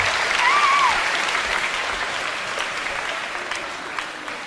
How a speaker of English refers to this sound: Give me a round of applause, guys.